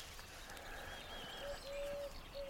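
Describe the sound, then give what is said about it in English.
Wood pigeons coo softly in a few low, drawn-out hooting notes with a steady rhythm, set against a constant wash of high, busy twittering skylark song outdoors on the Buchan Plain. “But I've got wood pigeons behind me, and a riot of skylarks in front of me.”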